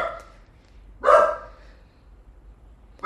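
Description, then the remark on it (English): A dog named Roxy barks once, a single loud, sharp bark that rings out briefly and fades, followed by quiet, with the start of another bark cut off at the very end. “That's Roxy barking in the background.”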